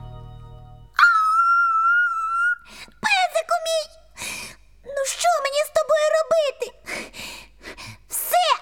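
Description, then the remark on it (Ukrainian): A dog whimpers: a long, steady high whine, then a run of wavering, pleading whimpers of varying length, fairly loud with no other sounds around them. “Песику, тихіше, бо тато нас ще сьогодні висварить.”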